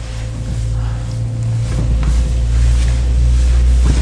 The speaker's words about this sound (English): What? The noise? That's the shower.